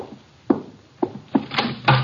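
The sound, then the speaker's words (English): Several firm knocks on a front door as guests arrive, about four or five in quick, slightly uneven succession, sounding solid with no voices present. “Archie, the door. Our guests are arriving.”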